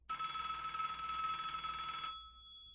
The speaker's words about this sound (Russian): когда вдруг тишину квартиры прорезала дробная трель телефонного звонка.